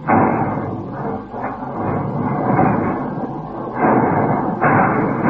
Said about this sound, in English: They sang, old 38A, the last tram, was being crushed into a block.